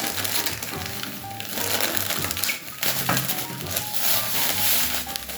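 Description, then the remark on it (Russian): A plastic bag of salt is torn and opened to make a salt bed on a baking tray for roasting chicken, with continuous crinkling, rustling and crunching lasting several seconds. No one speaks. “Открываем пакет с солью.”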